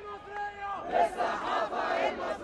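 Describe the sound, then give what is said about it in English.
A few dozen protesters in downtown Cairo chant together loudly against censorship, their voices merging into a dense, rising roar after a brief single voice at the start, sounding energetic. “In downtown Cairo recently, a few dozen people protested against censorship.”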